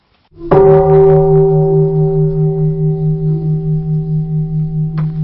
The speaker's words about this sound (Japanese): はい、やはり、イカルガ寺の鐘の音。 はい。 住職さんについていただきました。